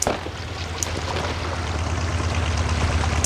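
A motorboat engine drones steadily over splashing water, a low rumbling hum that grows slightly louder as it draws nearer. No voices are heard.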